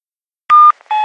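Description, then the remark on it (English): Two short electronic beep tones from an answering machine before a message, the second following a brief pause, loud with no voices. “A message on an answer phone.”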